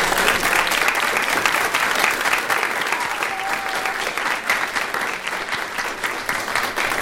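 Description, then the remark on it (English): Steady, dense applause from a group at a meeting, given to Stuart Williams for his year of service. Many hands clap at once in a continuous rustling wash that stays fairly loud and even throughout, with no talking over it. “So I think we should all give Stuart Williams an applause for a good year of service to us.”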